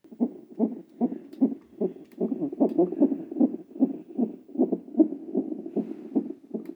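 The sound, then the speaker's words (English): A rapid, steady heartbeat of an unborn baby on a monitor while the mother waits to be induced, each beat a muffled whooshing thump, about two per second, continuous with no one talking. “In fact, I've decided to complete my own research into the field, and if you listen to the following sounds, you'll hear the heartbeat of my own baby as I wait to be induced.”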